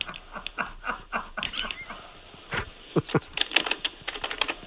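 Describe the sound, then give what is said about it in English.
Rapid, irregular clicking taps of keyboard typing mixed with a few sharper mouse clicks, fairly quiet, with no one speaking. “Oh, now a few mouse clicks.”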